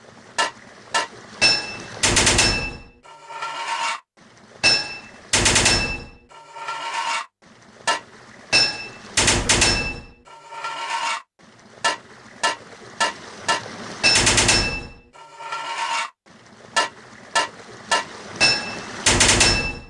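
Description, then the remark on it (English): Sharp metallic hammer strikes ring out in quick clusters of about four, each group ending in a longer scraping clank, repeating steadily with no talking, as a hammer fits metal pipes, four hits per pipe. “4 hits of a hammer to fit a pipe.”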